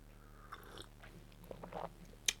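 A quiet first sip of the day from a drink: soft slurping mouth noises with a faint wet click near the end, no talking.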